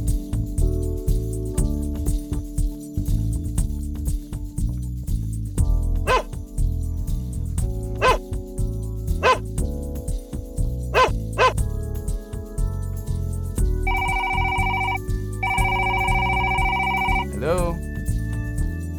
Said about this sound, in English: Yeah, that's my dog. Sure, yeah, I'll call him.